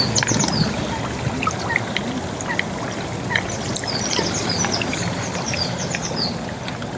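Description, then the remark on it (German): Steady bubbling and gurgling of carbon dioxide gas rising through water at mofettes of the Laacher See volcano, a continuous churning texture with no pauses, while faint bird chirps come through in the background. “Dieses friedliche Blubbern wurde eine Zeit lang als der letzte Hauch des Vulkans bezeichnet.”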